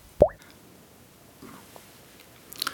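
A single clear water drop plops with a quick rising pitch, then near-silence with a few faint small clicks and a soft bright tick at the end. No one speaks.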